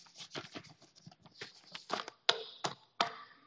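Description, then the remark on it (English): Paper note pages being shuffled and moved by the speaker: a flurry of soft, quick rustles followed by three sharper flicks, fairly quiet, with no one talking. “Oh, look, I get to move my pages on my paper notes.”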